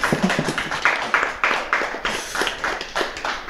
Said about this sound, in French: Et comme on réalise cet entretien en public, je suis sûr que tout le monde va vous applaudir maintenant.